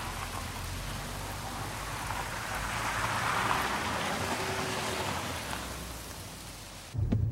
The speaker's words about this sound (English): Muttering a curse, he gets into the car. He drives off around the circular drive in the rain.